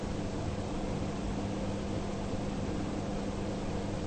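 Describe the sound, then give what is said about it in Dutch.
A steady electric fan whirs without pause, a constant airy hiss over a low motor hum, moderately quiet and unchanging throughout, with no voices. “Je zit niet meer op die lijn van het object, ventilator, en de mind die dat oppikt, zodat je zegt: ik hoor die ventilator.”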